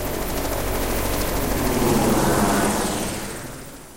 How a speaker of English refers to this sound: The helicopter almost immediately lifts off, thundering away.